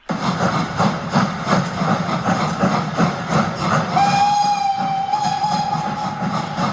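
A steam locomotive chugs steadily with a rhythmic chuffing, then a long, sustained steam whistle sounds partway through and holds over the running engine.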